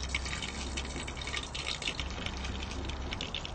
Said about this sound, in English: And lastly, we add quite a few curry leaves. You have to be careful because this splashes quite a lot.